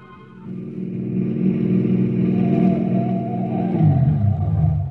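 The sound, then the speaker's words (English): A car engine revs hard and steady, loud, its low growl rising and surging as the car races north along a narrow rutted lane, bouncing and sliding over rough ground, with no voices. “We skidded into it and raced north, bouncing and sliding in the narrow ruts, not knowing if we were still followed or not.”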